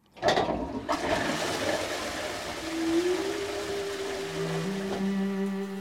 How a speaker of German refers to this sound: Heute bezeichnet man diese Konstruktion als Siphon. Das geruchlose Klo mit Wasserspülung ist erfunden. So wie wir es heute kennen und benutzen.